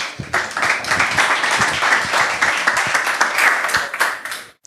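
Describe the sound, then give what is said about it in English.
An audience applauds steadily for several seconds, a dense wash of many hands clapping at once, fairly loud, before tapering off abruptly at the end, welcoming a speaker to a talk on privacy by design. “So give a warm round of applause”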